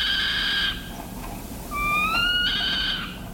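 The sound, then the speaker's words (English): A saw-whet owl gives two drawn-out, high-pitched, meow-like whines, the second longer with a slight upward slide, each fairly loud over a soft background hiss. “When agitated or threatened, the saw-whet gives what ornithologists describe as a decidedly uncanny, high-pitched meow.”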